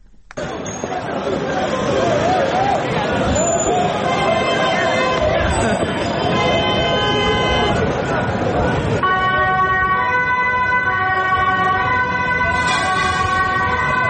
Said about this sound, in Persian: زد و خورد گروهی، افرادی که عده‌ای را تعقیب می‌کنند و با آنها ضربه می‌زنند و می‌گریزند. صدای آژیر اورژانس و پلیس و بازداشت‌های گسترده. اینها محتوای مشترک ویدیوهایی است که از بعد از ظهر روز پنجشنبه از شهر آمستردام، پایتخت هلند، در شبکه‌های اجتماعی